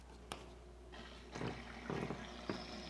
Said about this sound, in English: It's a little waterfall, and it's just water. But can you hear it? I mean, can you imagine just listening and seeing and watching?